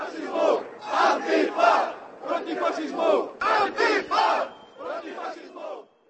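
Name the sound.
protest crowd chanting slogans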